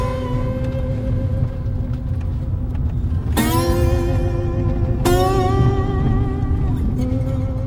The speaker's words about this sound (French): Donc là, en fait, on arrive dans une zone où on peut rouler en mode autonome.